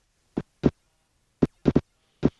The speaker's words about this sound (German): Das klingt nach einer Funkstörung? Nein, das Radio ist in Ordnung oder der Podcast, aber das, was man hier hört, das sind Augenbewegungen. Okay. Erstaunlich. Eine Wissenschaftlerin der Duke University in den USA hat die aufgenommen